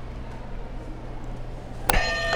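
buzzer being pressed

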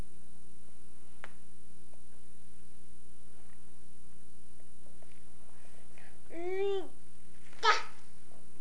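cat meowing

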